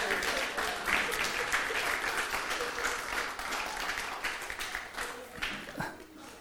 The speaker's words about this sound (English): All right. Let's give Alan a round of applause.